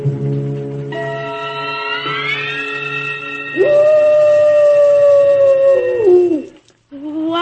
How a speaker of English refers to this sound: That was merely the soul of a wolf passing by the Kurgatorium.